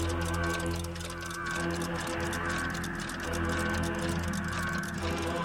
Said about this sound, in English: His house was filled with clocks of all sizes. Grandfather clocks. Ticking. With big brass ticking. Pendulums. Ticking. Mantel clocks. In unison. Wall clocks. Desk clocks.